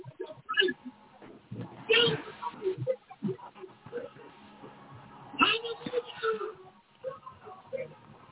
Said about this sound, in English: Yeah, she put on a praise song. She put on a praise song. Mute that sound. Mute that sound. That sound is too loud.